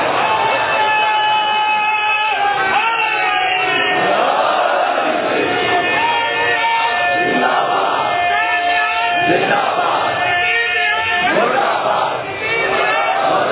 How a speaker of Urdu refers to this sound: جب ہمارے مومنین اس نعرے کو باواز بلند کہتے ہیں کہ حسینیت باواز بلند، حسینیت ہاتھ بلند کر کے، حسینیت حسینیت حسینیت، تو ہم اس کے ساتھ یہ بھی اعلان کرتے ہیں یزیدیت